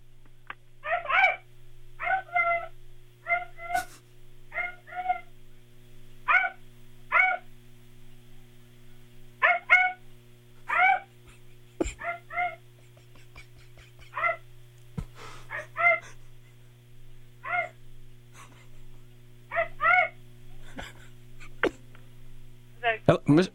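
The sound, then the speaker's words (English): A person imitates a dog, barking in short, sharp woofs again and again in irregular bursts and pairs, with brief pauses between groups, over a low steady hum, while walking through a den area off a kitchen to try to set off a little beeper programmed to respond to a bark. “So could you just walk through there and bark, and maybe the little beeper will go off.”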